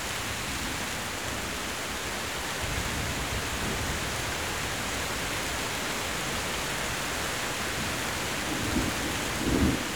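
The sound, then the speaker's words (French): Steady rain hisses across a thunderstorm with no voices, while low rumbles of thunder roll in the background and swell briefly louder near the end; the wind has dropped, the rain seems to be easing, and there is some lightning. “Le vent a fléchi. Et la pluie semble baisser d'intensité.”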